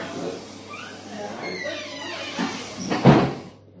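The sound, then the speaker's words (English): A door swings with faint creaky scraping, then shuts with a single solid thud near the end, clear, followed by quiet. “I'm just closing the door.”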